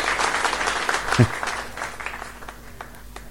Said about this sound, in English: Here is your applause.